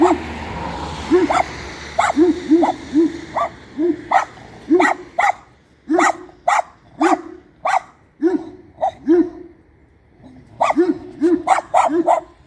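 A large dog, staying away from a fence, barks over and over, loud, fairly deep barks coming in irregular runs, often in quick pairs, with one brief pause before the barking resumes; no one speaks.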